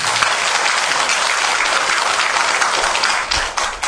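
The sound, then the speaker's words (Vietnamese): Sustained audience applause given as an extra round of applause, a dense steady wash of clapping from many hands that stays loud throughout and starts to thin slightly near the end, with no voices. “Cho nên riêng tặng cho những người có địa vị trong xã hội nhưng biết hướng về Phật pháp, một tràng pháo tay thêm.”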